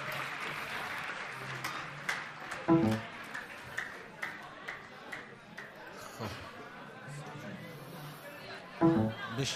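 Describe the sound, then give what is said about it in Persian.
A crowd applauds themselves after a countdown, clapping steadily for several seconds, a dense patter of many hands with scattered louder claps and a faint murmur of voices underneath. “خودتون رو تشویق کنین بگم بهتون.”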